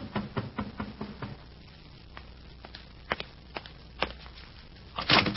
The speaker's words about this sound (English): An hour later, there's another knock at the door.